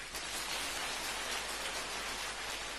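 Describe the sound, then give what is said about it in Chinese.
Steady, dense applause from a crowd, a continuous wash of clapping that holds at an even, fairly loud level throughout, with no voices heard. “我明白明白明白、 鼓掌。”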